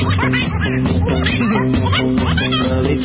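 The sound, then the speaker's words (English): A sped-up, quacking cartoon voice chuckles nonstop in loud, rapid, squawky bursts, like a duck laughing, more like Donald Duck than a laughing gnome. “That's more like Donald Duck than a laughing gnome.”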